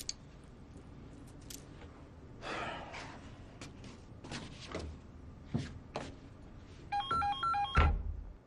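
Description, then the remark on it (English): A telephone gives a short, warbling electronic ring near the end, following a stretch of scattered thumps, clatters and rustling movement; nobody speaks. “Son, pick up the phone.”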